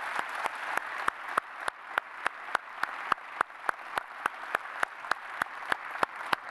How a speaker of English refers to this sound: Everybody standing, Springboro, Northmont, Centerville. Now I want you to give a thunderous applause all the way across. Thunderous applause.